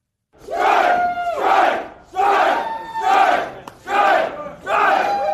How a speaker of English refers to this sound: Boeing workers shouting strike, strike shortly after voting overwhelmingly to take industrial action in a dispute over contracts and pay.